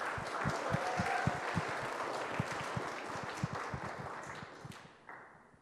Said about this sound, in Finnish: Hyvä, annetaan aplodit kaikille.